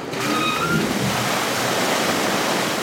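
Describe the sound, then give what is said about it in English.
A powerful, steady roar of water gushing out as large pumps at a military base discharge the past week's rainwater, loud, with a faint brief whine at the start and no voices. “They give me a little demonstration pumping out the past week's rainwater.”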